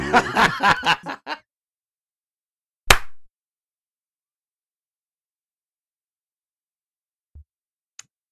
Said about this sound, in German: Ich mach nochmal ein Geräusch. Jo. Warte, ich muss einmal rülpsen. Ich mach noch ein zweites.